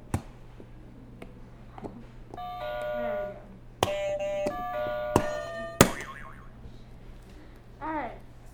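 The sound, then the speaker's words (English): A buzzer sounds in a few sustained, harmonic-rich tones lasting a couple of seconds each, punctuated by sharp clicks, over a steady low hum, with a brief voice afterward. “All right, wait, before we move on, remember what we have to do? The buzzer?”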